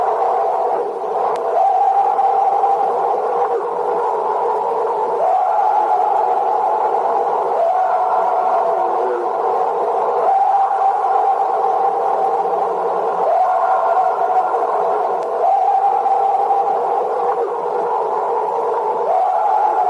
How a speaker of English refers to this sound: She said she stood on her back porch with the recorder as the Sasquatch began its high-pitched scream. Here now is an excerpt of that audio tape.